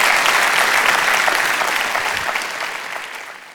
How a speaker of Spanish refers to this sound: Si Dios te habló, da un aplauso al Señor, que Él se lo merece.